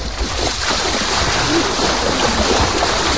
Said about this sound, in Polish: natomiast no samo sedno, czyli wejście do wody, no to chyba się tego po prostu nie da uniknąć. Ja jeszcze raz wejdę, a zaraz...